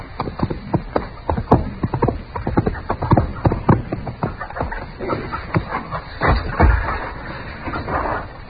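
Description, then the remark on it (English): Quick, irregular hoofbeats clatter, a scared horse's clip-clop running away steadily over several seconds, with a heavier thump near the end and a brief high tick early on. “The horse is scared away.”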